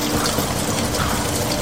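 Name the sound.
heavy rain pouring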